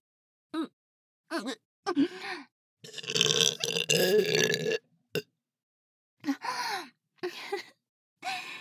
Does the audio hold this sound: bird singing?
no